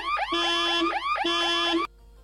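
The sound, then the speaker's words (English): A quiz buzzer sounds loud: two identical rising, warbling electronic whoops in quick succession, then it cuts off abruptly. No one speaks over it. “And yet you buzzed.”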